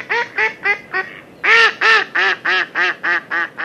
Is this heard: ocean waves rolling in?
no